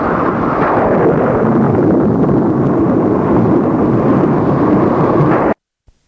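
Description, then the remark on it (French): A loud, continuous rumble of rolling thunder fills a thunderstorm, heavy and deep without letup for several seconds, then cuts off abruptly into silence. “et au milieu de l'orage, il lui a donné son premier baiser.”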